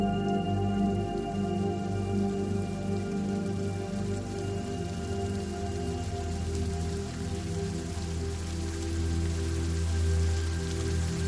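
Steady, even rain falls continuously with no pauses, joined by a low, sustained droning hum underneath. No voices are heard.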